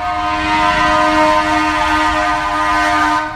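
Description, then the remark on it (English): A fire truck's loud, steady horn blares without pause for several seconds, dominating, its harsh tone holding level over a rumbling background, as fire trucks race down the streets of Santa Rosa on Monday, October 9th. “Here were fire trucks screaming down the streets of Santa Rosa on Monday, October 9th.”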